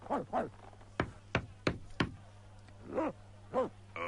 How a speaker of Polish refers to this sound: Przestań szczekać.